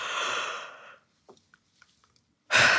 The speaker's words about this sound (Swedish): Innan man går och sätter sig i det här rummet där man ska bli intervjuad, så är det bra att man går iväg en stund till närmsta badrum och faktiskt gäspa lite. För gäspningar får en att slappna av.